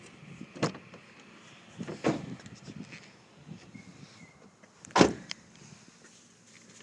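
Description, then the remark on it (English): Someone climbs into a new car through one of its new doors, with a few sharp door clunks and knocks spread over several seconds, the loudest near the end, amid soft shuffling and rustling. “And I'm just going to get in there, in the new, one of the new doors.”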